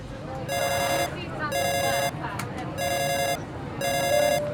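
A telephone rings in four regular electronic bursts, each about half a second long with short gaps, loud over a busy background murmur.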